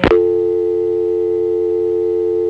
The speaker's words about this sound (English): Okay, before we start, let's pick up my east side line and call the number readback. Whoa, I can see the phone patch I used at the time messes up the sound of dial tone coming on. This is what it should sound like.